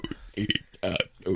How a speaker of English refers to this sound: Well, no, what it is I can swallow the air and make myself burp pretty much at any given point. Oh, so can I. Right. So I'll walk around the house going, like, you know, real loud.